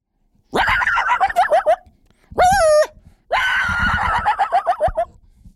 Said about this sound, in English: You know, a contrast to that would be some more aggressive barks or howls.